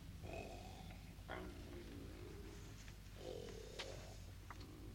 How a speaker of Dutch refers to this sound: Hij snurkte zo hard dat het buiten te horen was.